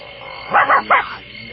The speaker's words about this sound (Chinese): 你不要穷紧张好不好？这不过是条狗嘛。 哼，臭野狗，半夜没事跑出来溜达什么？